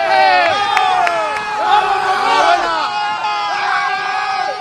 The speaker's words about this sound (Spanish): También aplauden los jugadores del Real Madrid a los aficionados blancos.